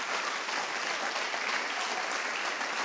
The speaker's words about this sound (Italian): La vogliamo accogliere con un applauso e apriamo il cuore.